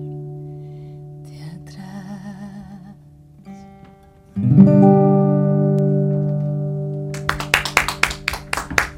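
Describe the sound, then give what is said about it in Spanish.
A sustained musical chord rings out and fades, then audience applause breaks in during the final two seconds, with a burst of many hands clapping over the dying note. “El próximo domingo habrá más aplausos, por supuesto, en la sala cúpula.”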